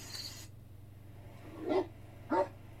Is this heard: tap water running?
no